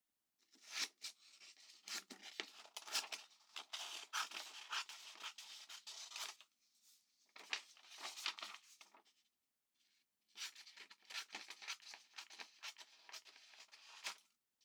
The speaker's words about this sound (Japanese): チョキチョキ、いい音だね。